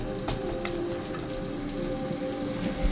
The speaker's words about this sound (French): Des larmes coulent de ses yeux. La pluie, bien sûr, qui s'écrase contre son visage doré.